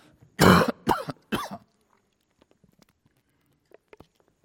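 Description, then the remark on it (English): A sneeze: three sharp, explosive bursts in quick succession, the first loudest and longest, followed by near silence with a few faint ticks. “Bless you. Bless you.”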